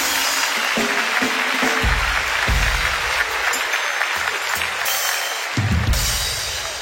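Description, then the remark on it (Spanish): A crowd applauds steadily for several seconds, dense clapping at a strong, even level, with a few louder bursts and scattered voices mixed in. “Un aplauso para mi amigo, por favor.”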